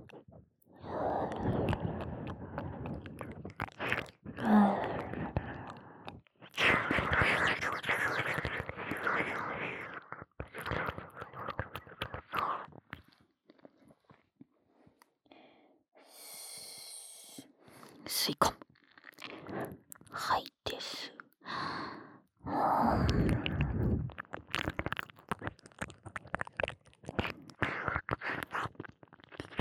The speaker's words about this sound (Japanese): じゃあ次の吸い込み耳なめと吐息レロレロ。